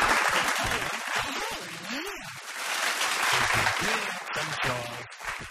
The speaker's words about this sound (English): Some more applause